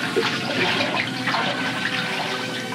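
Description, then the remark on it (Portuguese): Water pours and splashes in a steady, rushing stream during a baptism, fairly loud, continuing without a break for a few seconds with no voices. “Em nome de Deus, Pai e do Espírito Santo, eu te batizo com a água da vida.”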